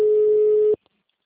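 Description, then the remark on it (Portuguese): A loud, steady telephone busy-signal tone sounds once for under a second, then cuts off abruptly, leaving near silence. “Não, qual, aquele telefone? Nem chama. Chamada. Uhum. Chamada sobre ocupado.”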